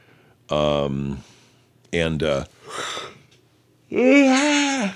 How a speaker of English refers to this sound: Excuse me, yawning.